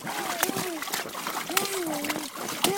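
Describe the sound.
Water splashes in sharp, irregular bursts as a child slaps at it, while a high child's voice squeals and vocalizes in drawn-out, wavering tones between the splashes.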